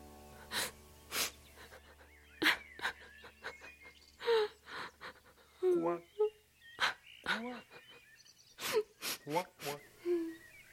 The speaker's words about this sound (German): So setzte sie sich neben den Brunnen und fing an zu weinen.